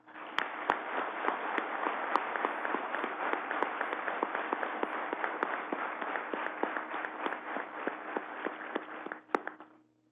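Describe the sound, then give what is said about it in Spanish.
A crowd breaks into sustained applause, dense overlapping clapping that holds steady and loud for about nine seconds before quickly dying away. No one speaks. “Esas empresas nos dan un ejemplo y demos a esas empresas un aplauso de gratitud.”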